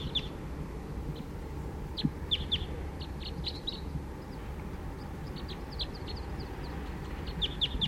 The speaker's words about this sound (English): And song by a wild bird there.